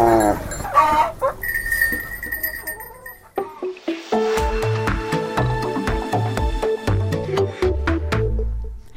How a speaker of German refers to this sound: Das Gefühl kommt mir vor allem über, wenn man die Geissen gehört bimmeln, die Kälber gehört muhen und die Hühner gehört gackern.